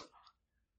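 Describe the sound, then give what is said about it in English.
A single short, breathy sneeze bursts out sharply and fades within a fraction of a second, fairly faint and alone, followed by near silence. “God bless you.”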